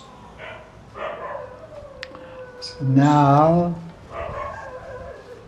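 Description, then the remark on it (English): A dog lets out one loud, drawn-out bark with a wavering, almost howling tone, between stretches of a person talking. “dogs are crazy. Too much crazy dogs.”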